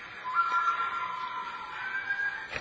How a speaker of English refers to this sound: What's that? My goodness, I thought the Lord was coming. Sounded like a whippoorwill. That remind you of a whippoorwill?